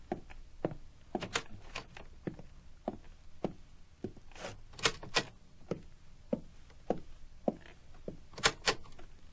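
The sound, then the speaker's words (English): Bedroom doors upstairs in a house being opened: a string of sharp clicks and knocks from latches and handles, irregular and moderately loud, over a faint low hum, with no one speaking. “Will you open the bedroom doors up here?”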